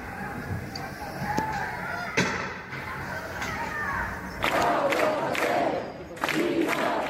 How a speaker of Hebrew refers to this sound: כך זה נשמע אמש ברחובות ברצלונה, יריות השוטרים שמפזרים את המפגינים המבעירים את הצמיגים ופחי זבל